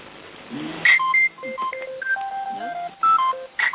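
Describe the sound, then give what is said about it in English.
A telephone rings during a meeting with a quick run of electronic beeping tones at shifting pitches, fairly loud, lasting a few seconds with no one talking over it. “Unless that's somebody ringing with any other business.”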